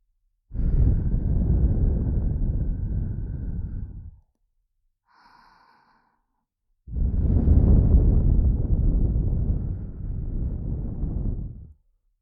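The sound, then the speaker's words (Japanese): Two long, steady breaths blown right onto the microphone to tickle the listener, each lasting about four seconds with a rumbling, windy rush. A short pause separates them, broken only by a faint soft blip. “不安なこと、怖いこと、全部全部忘れてしまえるように、私の手と吐息を用いてくすぐっちゃいます。”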